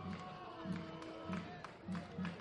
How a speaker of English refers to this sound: Listen to this crowd getting into it.